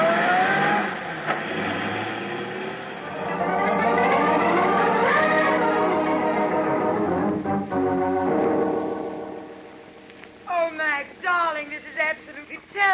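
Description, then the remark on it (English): An old Chevy convertible's engine revs and accelerates as it takes off in a cloud of dust, its pitch climbing through several gear shifts as it speeds off. Near the end, voices talk over the fading engine noise. “By the time I got there, he was climbing into an old Chevy convertible, and he took off in a cloud of dust.”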